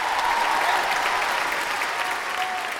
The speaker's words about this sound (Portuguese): A plateia aplaudia, chorava, gritava, jogava lenços e flores.